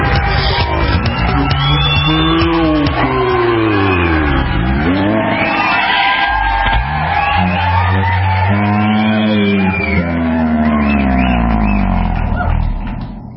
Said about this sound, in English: I like the applause. It's. I feel like we're right in the middle of something exciting going on.